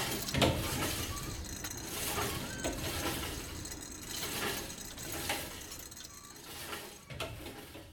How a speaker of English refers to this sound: Reverberations, banging and clanking in a used gym. My safe place of clarity and belonging, bodily loose, muscly pumped, and internally human.